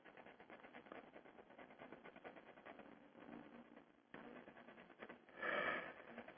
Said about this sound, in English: Okay, 2 days. Well, yawning again. I didn't feel tired when I started this this show.